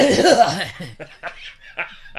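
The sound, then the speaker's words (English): An exaggerated old-man cough: a drawn-out, wavering croak followed by a few short, raspy bursts spaced unevenly, with a laughing quality to them. “Shit, I caught myself the other day having an old man cough.”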